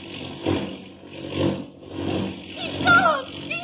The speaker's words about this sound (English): The plane took a sudden, sickening plunge, and Clark Kent vanished.